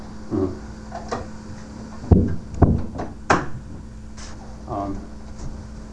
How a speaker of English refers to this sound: When you close that door, make sure you close it for real.